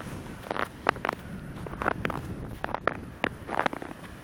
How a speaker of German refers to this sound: Das sind Crocs im Schnee, liebe Leute.